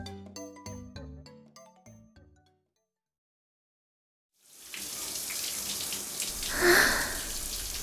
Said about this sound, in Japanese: はあ、熱いシャワーが気持ちいい。 七咲が僕の家でシャワーを浴びている。